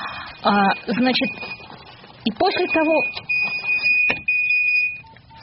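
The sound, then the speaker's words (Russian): A switched-on mobile phone in a pocket rings with a steady, high electronic tone that holds for several seconds, pauses briefly, then sounds again, while voices carry on underneath. “Простите, ради бога, я не понимаю, каким образом мог оказаться у меня включенный телефон в кармане.”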